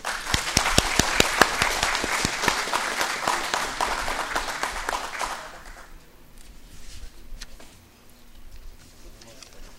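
A crowd applauds with dense, steady clapping for about five seconds as the mayor presents a commemorative plaque to an honoree at a municipal ceremony. The applause then fades out, leaving the chamber quieter with scattered faint sounds.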